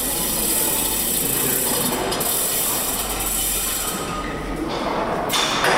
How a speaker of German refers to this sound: In der Dauerausstellung empfängt mich Baulärm. Ein Schild informiert, dieser Bereich wird neu gestaltet.